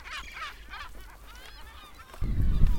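Harsh, strident seagull squawks come in a quick series of loud cries, then thinner wavering calls trail off before a gust of low rumbling noise takes over at the end. No one speaks.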